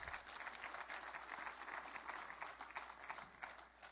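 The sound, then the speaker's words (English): An audience claps together in a sustained, dense clap offering that holds steady for several seconds, a continuous crackle of many hands with no voices standing out. “Come on, give him a good clap offering.”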